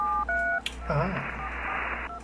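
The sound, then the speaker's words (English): Two quick phone keypad dialing tones, followed by a burst of noisy, muffled sound with a voice-like murmur, then one more short keypad beep at the end, fairly clear. “a phone like beep boop boop beep. Hold on, let me get my phone out.”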